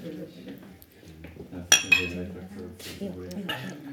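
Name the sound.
glasses clinking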